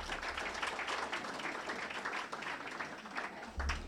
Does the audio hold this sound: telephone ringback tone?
no